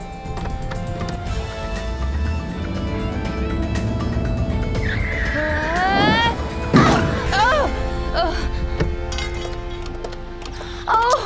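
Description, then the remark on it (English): A car engine runs steadily in a parking lot, then tires squeal in a rising skid that ends in a sudden loud crash as the car runs into another car, followed by lingering rattles and a final short bang. “Drive your car into them. I don't care. What? Run into them!”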